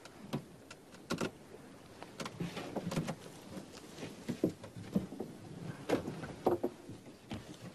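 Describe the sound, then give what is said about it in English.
A small boat rocks on water, giving off irregular soft knocks, creaks and light splashes over a low, steady background, with no one speaking. “Because I'm on this boat, my final parable should be about fishing, yes?”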